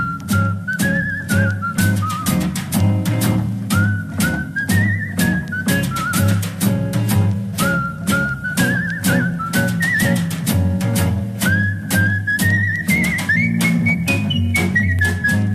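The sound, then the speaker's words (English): An Australian cigarette advertising jingle whistled clearly by TV celebrity Tony Barber, rising and falling in bright phrases over a bouncy band backing with steady drums, continuing throughout without any talking. “And if I say the phrases, when only the best will do, anyway, anyhow, ever, or the international passport to smoking pleasure, or play this tune whistled by then TV celebrity Tony Barber.”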